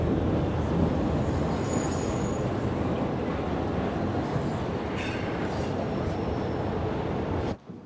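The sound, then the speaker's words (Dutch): Steady, loud rumble of an overcrowded metro train riding along, heard from inside the car, with faint high-pitched wheel squeals drifting in and out before the sound cuts off abruptly. “Ze staat in een overvol metrostel en staart dromerig voor zich uit.”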